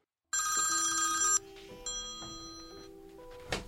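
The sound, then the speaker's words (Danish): A telephone bell rings loudly in a newsroom for about a second, then cuts off into a series of quieter, steady electronic tones and beeps. No voices. “men så ringer Lars Christian tilbage”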